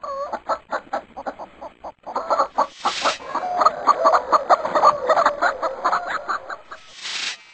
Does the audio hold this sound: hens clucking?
yes